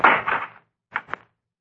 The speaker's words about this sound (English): Thought I heard footsteps outside the house. Footsteps? Just listen. Someone coming in the front door.